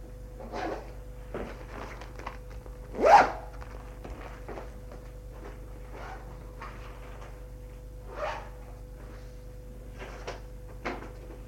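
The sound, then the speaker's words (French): A suitcase being zipped shut: scattered rustles and scrapes of handling, one sharper thump near the start, then a few softer knocks and shuffles, with no one speaking. “Ferme la valise.”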